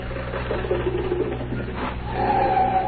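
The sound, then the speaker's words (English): A rattling, sputtering old, beat-up car engine chugs steadily, then a thin squealing whine rises near the end as the car winds down to a stop. “stop the car.”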